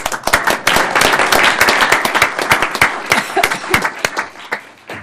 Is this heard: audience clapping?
yes